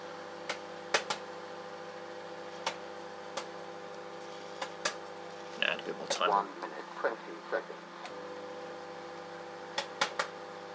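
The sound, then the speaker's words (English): A microwave oven runs with a steady electrical hum throughout, with about 33 seconds of cooking time remaining, broken by sharp scattered clicks and a brief burst of muffled sounds midway. “Stupid thing with this microwave is that it stops cooking in order to tell me the time.”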